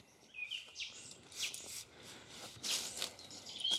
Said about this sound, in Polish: Jednak ptaki śpiewają na tyle fajnie, że trzeba z tego skorzystać.